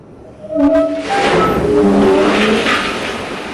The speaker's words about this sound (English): That's what 120 tons of coal sounds like when you dump it into a railroad car. Not far from the place where Sitting Bull defeated Custer, Cloud Peak Energy is mining coal and transporting it by rail.